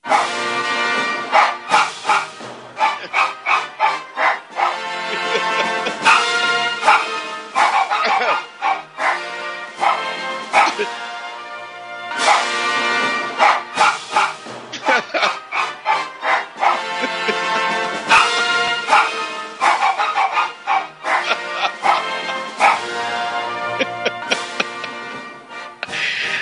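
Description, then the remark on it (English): A poodle barks over and over in quick, rhythmic volleys, loud, with brief pauses between bursts and no talking. “Teddy the Poodle, barking to rule Britannia.”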